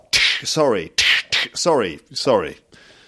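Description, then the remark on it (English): A voice imitates slaps to the face: four loud bursts in quick succession, each a sharp hissing smack followed by a short vocal whine, with no other sounds around them. “That's me sort of slapping you around the face.”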